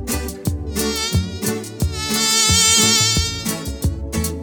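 A high, whining mosquito buzz with a wavering pitch hums over a rhythmic music track with steady drum hits, swelling loudest near the middle before the beat carries on.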